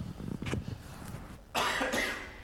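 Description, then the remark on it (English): A single harsh cough from a preacher during a sermon bursts out after a moment of low, muffled throat sounds, loud and brief, then fading quickly. “I'm trying not to cough.”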